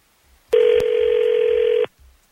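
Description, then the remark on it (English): Telephone sounds with no voices as the 102.9 The Wolf radio show places a follow-up call on air: a couple of sharp clicks, then one loud, steady, mid-pitched electronic ring tone that holds for just over a second and cuts off. “We're on the air, and we are calling to follow up.”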